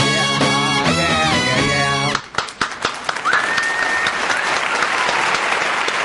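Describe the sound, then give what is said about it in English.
Music with harmonic tones plays for two seconds, then gives way to loud, sustained applause from a packed, standing-room-only live audience in the Annex, dense clapping with a few sharp claps and a brief whistle over the crowd. “Give it up, if you would, please”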